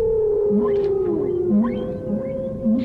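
A whale's long, sustained tonal call with slowly sliding pitch, accompanied by shorter moans and chirps over a low rumbling underwater background, steady and fairly loud throughout.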